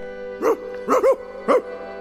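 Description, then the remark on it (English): An angry dog barks four sharp times in short bursts, with a quick double bark in the middle, clear over a steady musical backdrop. “Watch that dog. That dog is mad. That dog is gonna bite.”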